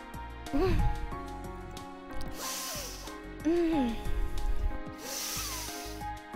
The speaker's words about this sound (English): I can't sniff it as close as I wanted to.